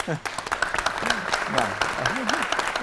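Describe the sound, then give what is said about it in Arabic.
An audience breaks into steady, dense applause lasting the whole stretch, a continuous patter of many hands, while a few voices talk and call out over the clapping. “صفقوا للطلاق.”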